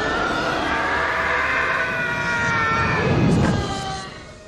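A man's long, high-pitched scream, the stock 'Howie Scream' from the film Broken Arrow, where Howie Long's character is kicked out of a train on a bridge and falls down a cliff, wavers steadily for about four seconds over a rumbling, noisy background, then fades out as the rumble briefly swells.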